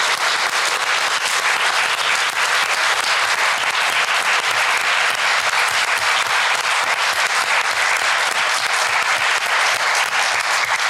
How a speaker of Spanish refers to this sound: Para toda la gente que tuvo que ver con la aprobación de la Ley Olimpia, pero especialmente para Olimpia Coral Melo, creo que mandamos un aplauso con mucho amor y reconocimiento.